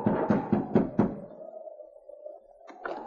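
Five quick, evenly spaced raps on the wooden door of the constable's cabin, each a solid thud, followed by a lingering hum as the knocking stops; a voice begins speaking just at the end.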